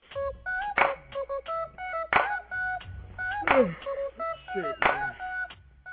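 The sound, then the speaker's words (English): A string of short electronic telephone tones, like keypad beeps, heard after a phone is hung up, repeats at a steady clip, punctuated by sharp percussive hits roughly every second and a half. “So I hung up the phone, right?”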